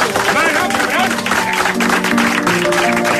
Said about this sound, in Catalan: És la primera vegada que s'aplaudeix una data. És la primera vegada que s'aplaudeix una data a la ràdio.